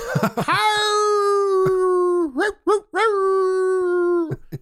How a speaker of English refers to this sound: After the accident, Marcellac and Hector Petit set off to find a nearby farmhouse for help, but gave up when they heard howls of wolves in the forest.